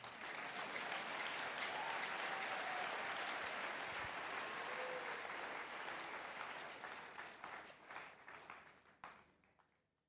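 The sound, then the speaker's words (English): A church audience claps together during a sermon in a dense, sustained burst of applause that holds steady, then thins into scattered individual claps and fades out toward the end. “Clap well, oh.”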